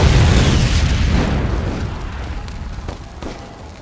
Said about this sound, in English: A moment later, the rocket slammed into the side of the building about two floors up.